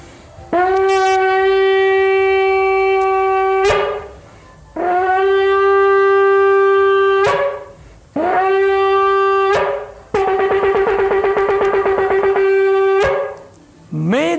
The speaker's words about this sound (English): So that's the Jewish sound of trumpet right now.